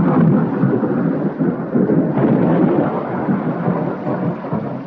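A deep, rolling rumble of thunder swells and lingers over a steady roar of heavy rain pouring on a dark forest during a thunderstorm, loud and continuous for the whole stretch with no voices.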